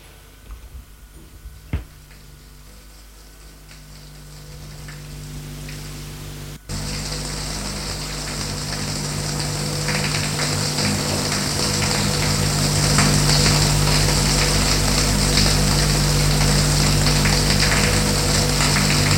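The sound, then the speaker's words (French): In a bathroom, a small knock, then a shower starts and water sprays steadily, a broad hissing rush that grows fuller and louder and keeps running to the end. “Se déshabille, et va dans la salle de bain pour prendre une douche.”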